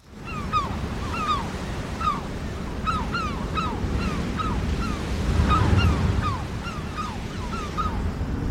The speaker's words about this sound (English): There's a long, greasy swell basically coming from the southeast this morning. The sea itself is a sort of muddy green colour. Looks pretty cold. And where it's breaking against this cliff face, there must be a cleft,